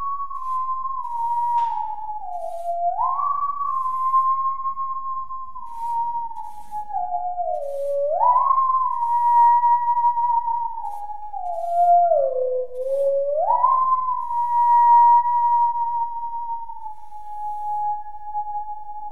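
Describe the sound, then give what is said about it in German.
A musical saw, its vibrato shaped with a lever to sound like a female singer, sings a sustained, pure, voice-like tone, dipping and swooping back up in three slow phrases with a gentle vibrato, steady and unaccompanied, with no talking. “Und das versuche ich mit dem Hebel zu imitieren, damit die Säge klingt wie eine Sängerin.”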